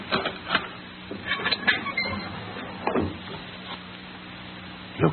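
door opening

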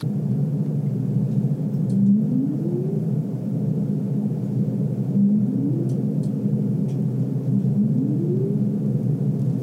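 humpback whale song

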